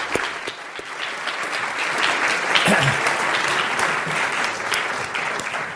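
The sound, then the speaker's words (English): Sustained audience applause as a speaker takes the stage to present his worldview, a dense wash of many hands clapping at steady loudness for several seconds with no voices standing out. “will you take the stage and give him a round of applause as he comes there?”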